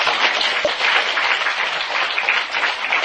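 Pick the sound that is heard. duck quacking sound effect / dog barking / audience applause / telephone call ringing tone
audience applause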